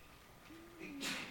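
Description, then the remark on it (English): A single sneeze: a short voiced intake followed by a sharp, breathy burst of noise, fairly faint overall. “Bless you.”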